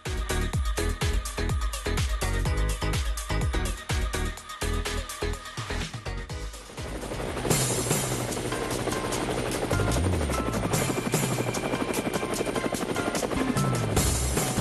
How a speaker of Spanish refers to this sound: Bueno, y las aletas del helicóptero lo dice todo.